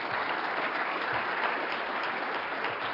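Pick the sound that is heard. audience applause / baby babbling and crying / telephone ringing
audience applause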